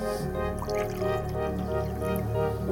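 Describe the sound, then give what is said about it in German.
Water is poured steadily into a glass of juice for a few seconds, a continuous splashing with a ringing, hollow resonance as the vessel fills. “Also den Saft einschenken und dann ein bisschen Wasser rein und dann ein bisschen rühren und dann trinken.”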